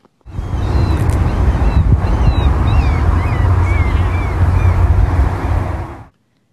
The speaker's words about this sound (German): Möwen. Ja, gut, ich gebe zu, das könnte jetzt auch wirklich in jeder Stadt oder Hafenstadt sein.